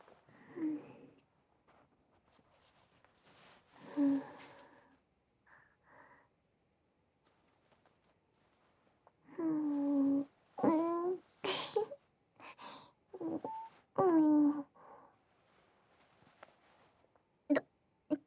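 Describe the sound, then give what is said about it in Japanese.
Deep sniffs and breathy inhales of someone smelling a dog's fur come in short bursts, mixed with soft voiced moans and whimpers, with quiet pauses between and no spoken words. “では続けて犬吸いもどうぞ。”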